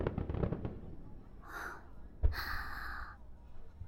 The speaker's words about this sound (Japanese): それからびっくりした。花火か。